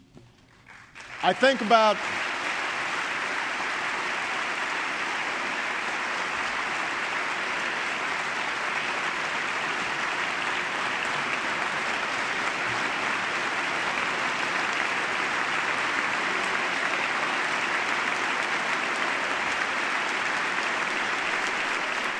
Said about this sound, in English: And applause in the chamber as people turn to look at Leonard Abbas